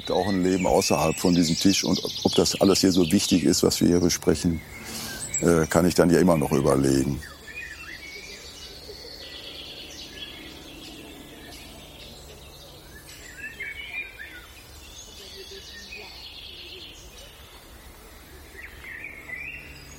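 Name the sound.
many birds singing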